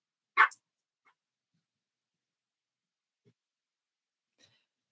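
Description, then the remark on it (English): A puppy gives a single sharp bark, followed by near silence with only a few faint small noises. No one speaks. “That's the puppy.”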